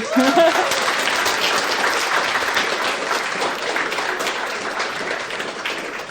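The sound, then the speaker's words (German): Sustained applause from an audience for a group, a dense wash of many hands clapping at a steady loud level for several seconds, tapering only slightly toward the end. “Oh, Aufmerksamkeit nochmal alle, noch einen riesigen Applaus für die Gruppe.”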